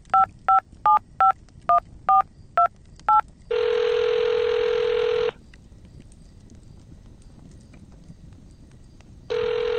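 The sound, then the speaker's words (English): A phone is dialed: a rapid, evenly spaced run of about eight touch-tone keypad beeps, followed by a longer buzzing ring tone, a quiet pause, and the ring starting again. No one speaks. “Let's give him a call and see what happens.”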